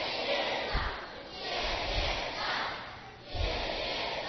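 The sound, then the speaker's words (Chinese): A class of children, all standing up, cheers loudly in unison three times on the teacher's count of five-six-seven-eight, three rising shouts over a steady wash of crowd noise that never fully drops away between them. “来，全体起立，来大欢呼三次，还记不记得？”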